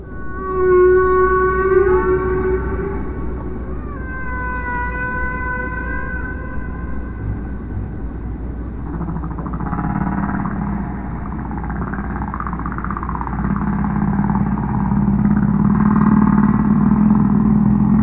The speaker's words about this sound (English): You hear the whale's voice and you hear echoes from the bottom of the waves and the bottom of the sea.